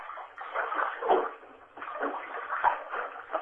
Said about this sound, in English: We got water in the background, guys.